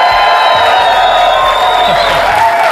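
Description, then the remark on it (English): A large crowd at Summit 2017 cheers loudly and steadily as Coach Lou Holtz walks off the stage, a dense wash of applause, whoops and shouting that stays at full volume throughout, a raucous standing ovation. “We have a great crowd here watching, and Coach Lou Holtz just walked off the stage to a raucous standing ovation, an unbelievable talk to these leaders.”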